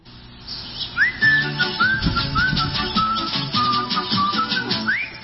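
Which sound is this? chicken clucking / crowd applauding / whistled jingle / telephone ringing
whistled jingle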